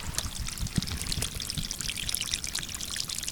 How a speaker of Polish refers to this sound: To woda, która cieknie spod tych worków. A więc to na pewno jest tylko prowizoryczne zabezpieczenie.